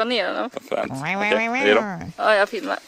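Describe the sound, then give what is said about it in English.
An African bullfrog gives deep, bellowing calls, loud and moo-like with a rich buzzy tone, in about three drawn-out bursts with brief breaks between them. “This is fucking, what kind of bullfrog is that?”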